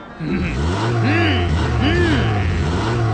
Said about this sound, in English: Wow! That sounds awesome! How's that? I have a super strong engine. Yours doesn't even compare to mine. Wow! Sounds cool, doesn't it?